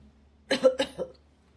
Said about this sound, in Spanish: Tos, sonido que hacemos cuando expulsamos aire de los pulmones de forma rápida y fuerte.